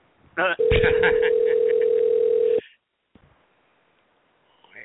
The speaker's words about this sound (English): This is their number, so. They probably got tired of working for minimum wage. I'll give them a couple more rings, then I'll just hang up and try another Walmart store.